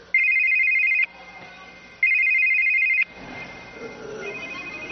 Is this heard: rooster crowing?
no